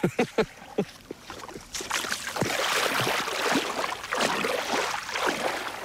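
Gentle waves of clear, cobalt turquoise water lap at the shore of a beach on Inishlakken, starting with a few soft separate splashes, then settling into a steady, rippling wash of water that swells and recedes with no voices.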